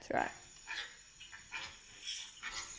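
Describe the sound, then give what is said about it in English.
Someone imitates a dog with a sharp, voiced bark-like yelp at the start, followed by several softer breathy bursts spaced through the rest of the moment, moderately loud. “And I was so confused when we started because you went 3, 2, dog. And then that's why I stopped because I was like, did she mean to say that?”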